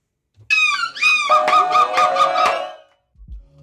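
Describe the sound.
A woman's voice imitates a gull's scream in her winning gull-scream entry, about 3 seconds long: two rising, nasal squawks followed by a long, loud, rapidly pulsing shriek lasting about a second and a half, then fading out.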